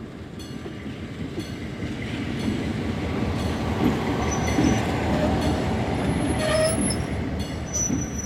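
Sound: train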